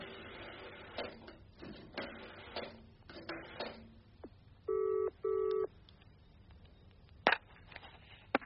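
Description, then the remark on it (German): A series of irregular clicks as a telephone number is dialed, then two short ringing tones in a double burst, followed by a sharp clack like a receiver being picked up. No one speaks. “Ja, ich muss sowieso telefonieren.”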